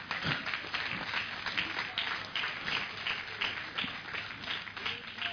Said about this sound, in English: Give the Lord a clap offering, somebody.